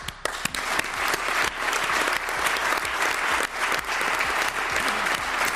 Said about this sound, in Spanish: En su memoria se ha guardado un minuto de silencio al inicio de la primera sesión de hoy en las Cortes de Aragón. Minuto de silencio que ha finalizado con estos aplausos.